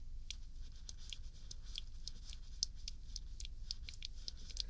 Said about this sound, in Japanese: ベッドシーツ敷いてるからちょっとガサガサ音が入っちゃう。